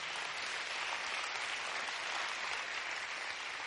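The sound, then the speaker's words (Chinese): An audience claps to give glory to the Lord, a dense and even wash of many hands that holds at the same level throughout, with no voices standing out. “阿们，愿意的拍手把荣耀归给主，好不好？”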